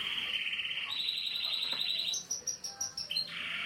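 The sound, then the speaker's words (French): Small caged birds sing in a small, simple house under a tin roof, a sustained high trilling that breaks into a quick run of rhythmic chirps, bright and fairly loud over a faint background hum. “Et pendant ce temps-là, les petits oiseaux qui sont dans la cage chantent, on entend la radio derrière, c'est une toute petite maison toute simple.”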